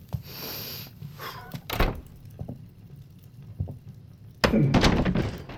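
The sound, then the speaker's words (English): A door is handled: a soft clunk, a muted thud a moment later, then a louder rush of noise as it swings open near the end. No one speaks. “I opened the door and, it wasn't as bad as everyone says.”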